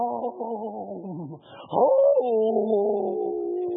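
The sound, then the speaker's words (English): A voice imitates wind whistling across a hot, sandy desert, a sustained wavering howl that dips, swoops upward, then holds a steady moaning tone for several seconds, fairly loud. “I mean, when the famine hit and that old dry, that wind's blowing across that hot, sandy desert, whirling around, you can hear it whistling.”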